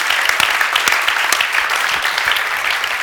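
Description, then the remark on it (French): An audience applauding the Lord for forgiveness, a dense wash of many hands clapping at once with scattered sharper claps standing out, sustained and fairly loud throughout. “Est-ce qu'on peut applaudir le Seigneur pour cela?”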